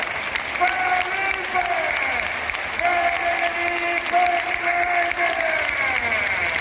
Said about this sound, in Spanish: El pasado clásico, que fue el domingo, se vivió esto en el Wizzing Center. Recibamos con un fuerte aplauso a nuestro gran capitán.